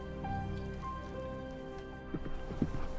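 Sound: horse galloping hooves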